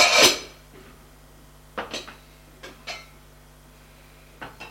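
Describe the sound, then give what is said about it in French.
A saucepan is lifted from a dish rack by the sink with a loud metallic clatter, followed by a few lighter knocks and clinks of kitchenware, with no one talking. “Prends l'égouttoir de l'évier, une casserole.”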